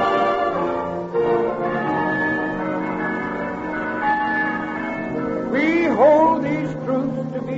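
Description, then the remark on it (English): Bells ring steadily amid a dense wash of music in a radio program's opening, their tones sustained and overlapping throughout, with gliding voices rising and falling near the end. “Yeah, all that music and bells ringing and voices that I interrupted when I came in.”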